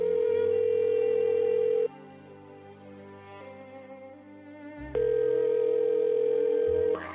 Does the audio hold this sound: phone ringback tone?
yes